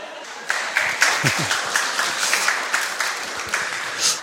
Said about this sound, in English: Oh, I don't know why you applauded.